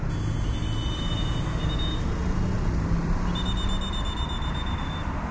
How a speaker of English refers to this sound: We'll start in Bogota, Colombia, on a busy street in the middle of traffic.